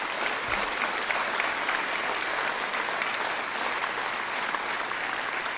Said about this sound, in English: I think we should give a round of applause for our teachers in Louisiana, the great job they do every day.